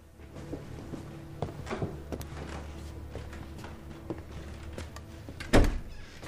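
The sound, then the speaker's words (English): A kitchen door is pushed shut with a solid thud near the end, after a few quieter knocks and shuffling movements over a steady low hum. No one speaks. “He follows her into the kitchen, checking his watch, and she shuts the door.”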